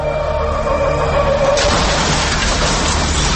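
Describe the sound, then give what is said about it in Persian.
A low steady hum gives way abruptly to a loud, harsh crash of a traffic accident, a bus colliding with something in heavy rain, its noisy roar sustained to the end with no voices. “ناگهان صدای مهیب یه تصادف رو میشنوین.”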